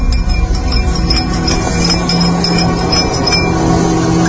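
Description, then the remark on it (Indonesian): A spoon clinks lightly and repeatedly against a glass as an uncle stirs his coffee in the kitchen, the small metallic taps coming in an uneven rhythm over a steady low background rumble. “Suara gelas dan sendok saling bertaut-tautan.”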